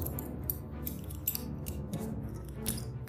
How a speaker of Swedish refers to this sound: Rummet fylls av dyrkarnas skrapande och klickande mot låsmekanismerna.